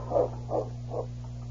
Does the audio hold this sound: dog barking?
yes